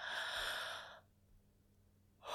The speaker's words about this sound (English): There you go. There are those soft yawns.